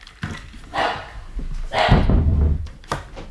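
dogs barking

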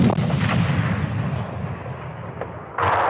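howitzer artillery firing

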